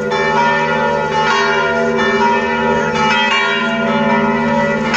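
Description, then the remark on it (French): A full peal of church bells, all the bells swinging together to announce a feast day, a dense, continuous wash of overlapping metallic strikes and ringing tones, loud, with no voices. “C'est l'ensemble des cloches en plénum qui sonnent à la volée pour annoncer cette fête.”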